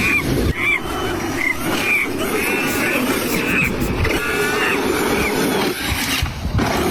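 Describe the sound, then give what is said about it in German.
A steady electric motor whir from an electric ride-on quad runs throughout, overlaid by several bursts of squeaky, chattering monkey sounds at a higher pitch from a plush toy monkey mounted on the quad, fairly loud, with no talking. “Nee, ist kein Moped, ist ein Quad. Yeah. Quad, und da ist halt einfach so ein Plüschaffe drauf, wo die Sounds eingefügt werden.”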